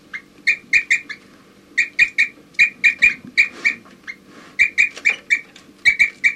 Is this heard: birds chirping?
yes